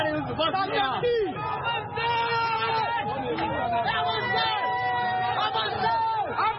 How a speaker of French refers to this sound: Les organisateurs sont débordés et la foule décide de marcher.